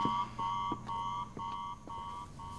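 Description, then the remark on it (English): A motion-detecting alarm beeps in a steady, rapid repeating pattern of short tones, loud and continuous, as all the outside lights come on, with no voices present. “All the outside lights came on. It's the motion detecting alarm.”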